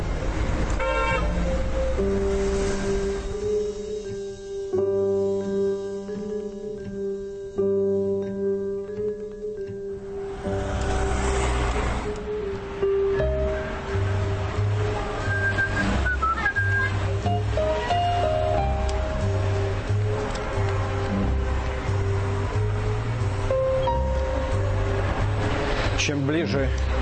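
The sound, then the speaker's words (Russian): Busy city street traffic roars steadily on the noisy Rue de Rivoli on the Right Bank, with car horns honking repeatedly, some long sustained blasts and shorter toots layered over the engine noise, and faint voices mixed in. “Но пора в седло и через новый мост, чтобы не застрять в Тюильри, на правый берег и шумную Риволи.”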